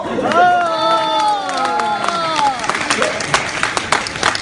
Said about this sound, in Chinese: 我看你们谁在鼓掌？都是你带的头，知道吗？